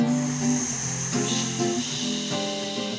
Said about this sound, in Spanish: Otra noche de viento y lluvia.